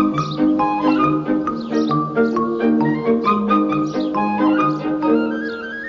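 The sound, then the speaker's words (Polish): A small grey bird chirps busily, its short, repeated cheeps tumbling over one another in a dense, steady chatter that stays fairly loud throughout, with no voices. “Kolorami nie zachęca, śpiewem nie zachęca, bo te ćwierknięcia nie są jakieś takie, to nie jest wirtuoz ptasich śpiewów.”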